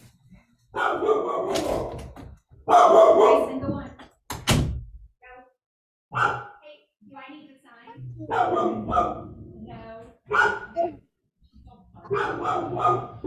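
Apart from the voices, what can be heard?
dog barking excitedly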